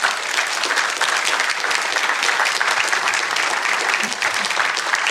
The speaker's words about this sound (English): So if I could ask you to just to give him a round of applause and thank him for being with us.